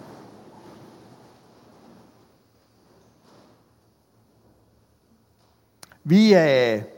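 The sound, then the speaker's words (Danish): A diffuse rustle of many people shuffling and standing up to hear a reading from the Gospel of John fills the first few seconds, fading to near silence, followed by a sharp click and a single voice beginning to speak. “Og lad os rejse os op og høre den.”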